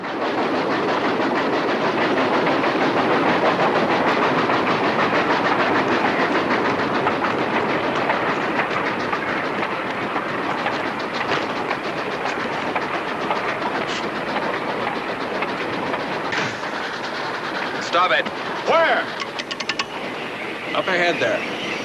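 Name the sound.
moving train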